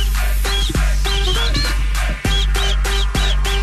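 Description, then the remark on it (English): Someone whistles a short, high, bright melody in brief repeated phrases over a loud, bass-heavy music bed, with no talking, on Charlotte's Morning Show on radio station Kiss 95.1. “Nice whistle.”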